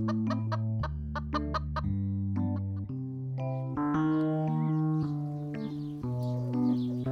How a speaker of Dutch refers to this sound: Boer Boris heeft een boerderij. Daar horen ook 10 kippen bij.